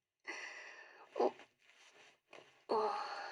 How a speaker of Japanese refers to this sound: チャックが閉まらない。大丈夫、なんとかチャックを閉められたよ。